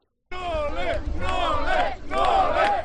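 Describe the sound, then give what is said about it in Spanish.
A small crowd of about 30 fans with banners, gathered at a door in Belgrade to welcome Novak Djokovic on his arrival, chants loudly in unison, their voices rising in three rhythmic surges over a low rumble, with no one speaking separately. “Pero vamos, que eran unos 30, como muchos los que había en esa puerta, ¿no?, con pancartas para recibirle.”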